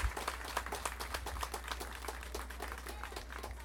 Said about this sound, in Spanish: ¡Viva! Un fuerte aplauso a la hermana Marichuy. Fuerte, hermanita.